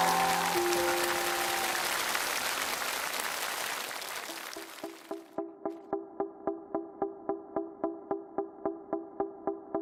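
A crowd claps steadily for about five seconds, the applause gradually thinning out, before a steady, evenly pulsed musical beat takes over and repeats through to the end.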